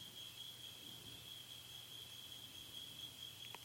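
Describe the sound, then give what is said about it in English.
Crickets chirp in a steady, continuous high-pitched trill that never breaks, fairly soft, with no voices and only a faint low rumble underneath. “The noise of the crickets, they can do their own thing.”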